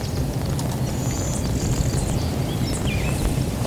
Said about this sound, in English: That's the blue winged warbler. Yes, I thought so. Yeah. Is that what I heard? Yeah, the blue winged warbler.